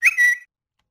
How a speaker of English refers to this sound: Here's a parrot.